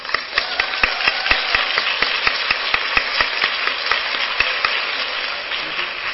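An audience at an awards session applauds the awards chair who organized the program, clapping steadily for several seconds, a dense wash of applause with sharper individual claps popping out. No one speaks over it.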